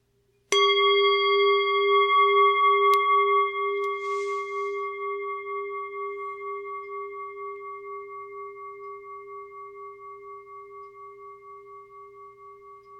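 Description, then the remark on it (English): A single mindfulness bell is struck once and rings out clearly, its pure shimmering tone slowly fading over many seconds with a gentle pulsing wobble. No voices are heard. “Just as we break into the gratitude session, I think it would be good for us to take a few moments of mindfulness with the bell.”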